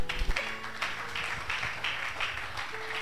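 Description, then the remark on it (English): Many hands clap together during a Bible teaching, a dense, steady patter for about three seconds, a moderately loud burst of group clapping with no voices over it. “Clap your two hands.”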